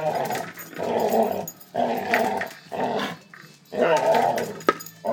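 A dog named Niall growls while playing, in a series of rough, rumbling bursts with short pauses between, a playful, throaty snarl that rises and falls over several seconds, with a brief sharp knock near the end.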